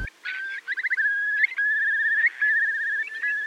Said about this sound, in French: Mais on peut entendre le courlis sur le son du Muséum d'Histoire Naturelle.